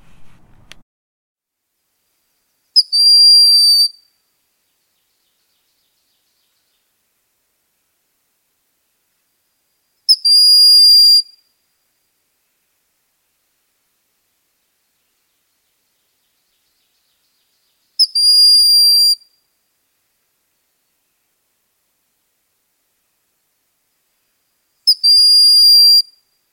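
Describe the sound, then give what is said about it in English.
A broad-winged hawk's high, thin whistle rings out four times, each call about a second long and separated by several seconds of silence, clear and fairly loud with no other sounds. “Of course, raptors also have their whistles and chirps. Here's a broad-winged hawk.”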